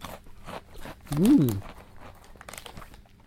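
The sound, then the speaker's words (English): Crunching and chewing of food, with a louder burst of crunchy bites midway and softer mouth sounds before and after; no speech. “And you like my swallowing? Shit. Food is so good. You should eat with me, then you don't feel gross,”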